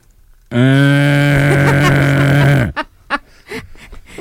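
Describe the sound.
A voice imitates snoring with one long, loud, low buzzing rasp lasting about two seconds, followed by a few short, breathy sputters.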